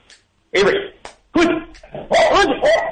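A tricolored Welsh Corgi named Avery barks loudly, four sharp, yappy barks in quick, uneven succession with brief pauses between them.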